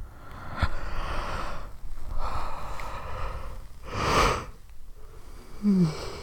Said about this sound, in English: Don't yawn, babe. You're gonna make me yawn. You can't help it, you're sleepy.